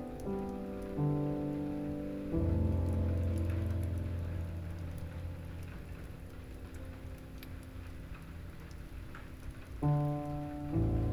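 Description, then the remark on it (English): Steady, gentle rain patters softly in the background beneath slow, sustained musical tones that shift chords every few seconds, with no talking. “Breathe, and instead, let the gentle rain wash them away.”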